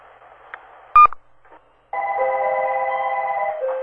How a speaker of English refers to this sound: Phone is ringing.